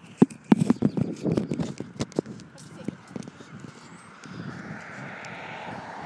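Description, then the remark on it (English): Road traffic noise: a broad, steady engine rumble swells over the last couple of seconds, following a run of sharp knocks and clicks, moderately loud overall. “But anyway, I hope the traffic's not too loud.”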